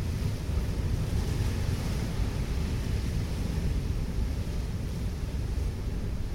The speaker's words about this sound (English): I'm sitting in the Victorian shelter on Hutchins Point, looking out across a desolate seascape of foaming seas and winds that have rushed in straight from the Atlantic. The last time they touched land was in Newfoundland in Canada.